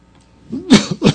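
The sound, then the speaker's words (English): A man preaching a sermon clears his throat and then coughs twice in quick succession, fairly loud, each burst rough and breathy, with a short gap between them. “Anybody got a cough drop?”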